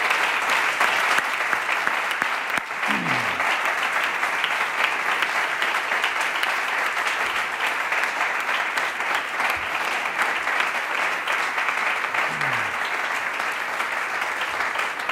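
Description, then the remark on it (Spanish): Sustained audience applause at a Partido Popular event, a tribute in memory of José María, a former city councillor, held for 21 years running. It is a dense, steady wash of clapping that holds at an even loud level for the whole stretch without pausing or fading. “José María siempre en nuestra memoria, siempre en nuestro recuerdo y este aplauso 21 años seguidos va a pasar.”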